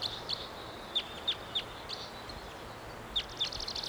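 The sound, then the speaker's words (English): A wild bird high in the treetops gives a series of short, high-pitched chirping calls, spaced irregularly, with a faint steady hiss of insects or background in between and no talking. “Wild bird. Not sure which one this is.”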